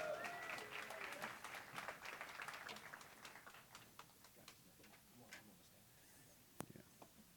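An audience claps for a person joining to do the morning readings, in a dense patter of applause that is strongest at first and gradually thins out, ending in a few scattered claps and one sharp final clap.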